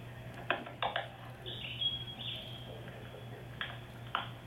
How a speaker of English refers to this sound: In this case, this was a bird that we recorded a couple years ago. We didn't know what it was at the time because we were with our informant out in the jungle.